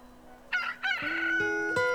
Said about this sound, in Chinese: 又一个星期一的早上，天刚亮，大家就被一阵喔喔喔的声音叫醒了。难道是大公鸡回来了？大家兴奋地爬起来，来到了草地上。哈哈，大公鸡并没有回来，是鸡妈妈孵出了一只小公鸡。